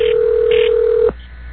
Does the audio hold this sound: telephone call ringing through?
yes